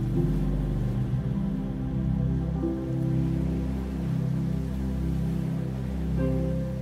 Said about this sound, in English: Feel this golden light wrapped around you as you begin to relax to the sound of the waves.